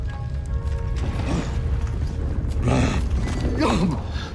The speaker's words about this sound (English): Another mighty roar sends Kazar reversing into the stone statue at speed. He collapses under it as stones begin to fall.